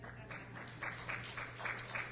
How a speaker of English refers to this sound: Isn't it a little prideful to clap for yourself?